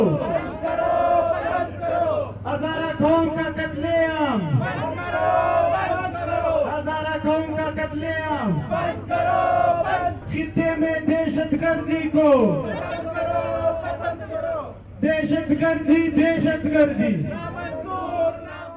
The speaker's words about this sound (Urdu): Quetta press club کے باہر ہونے والے مظاہرے کے شرکا نے یہ نعرے لگائے.